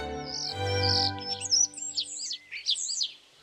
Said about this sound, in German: auf einem Ast vor dem Fenster saß er, Mozarts Star, und zwitscherte ihnen fröhlich zu